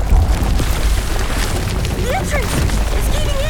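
A cave entrance in Mexico collapses in a deep, continuous rumble with crashing debris, loud throughout the whole stretch, while brief voiced cries rise and fall over the roar near the end.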